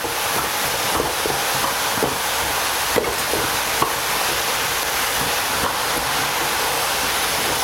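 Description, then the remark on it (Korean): A steady, loud sizzle of vegetables (enoki mushrooms, white cabbage and onion) stir-frying in chili oil in a hot wok, stirred so the bottom does not burn, with scattered clicks and scrapes from stirring, occasional sharper clanks of a utensil against the wok, and no talking. “자, 밑에가 타지 않도록 잘 저어주시고. 아유, 손놀림이 예사롭지 않아요.”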